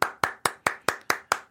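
Eight sharp hand claps of applause at a steady, fairly quick pace, clear with no talking, each one a crisp smack that fades quickly.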